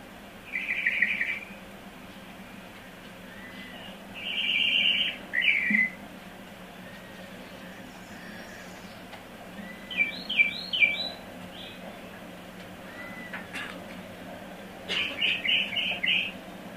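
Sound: mockingbird singing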